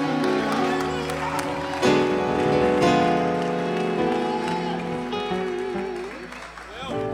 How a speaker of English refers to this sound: Somebody give the Lord one more big hand clap of praise. Alguien dele palmas una vez and más. Shout unto God y clamen a Dios. With a voice of triumph. Con voz de victoria.